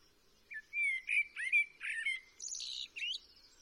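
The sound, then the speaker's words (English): European goldfinch song recorded in a garden: a quick, liquid twittering run of bright, high notes and buzzy trills, shifting in pitch and climbing higher toward the end, with no talking. “So let's have a listen to the song of the Eurasian bird rather than just the calls.”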